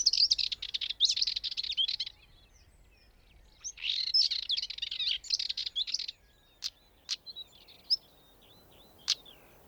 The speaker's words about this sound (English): let's go for stone chat, which sound exactly as you would expect them to, like two stones being clicked together.